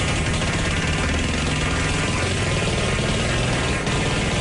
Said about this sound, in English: you basically had to, like, run back and forth with the needle and pop them, 200 balloons.